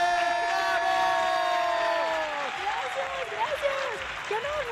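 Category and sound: crowd, audience applause and cheering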